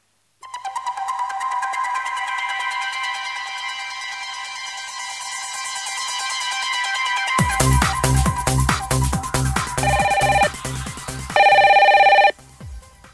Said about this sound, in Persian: یک تلفن هم آماده پخشه، اگه موافق باشید بشنویم با هم دیگه.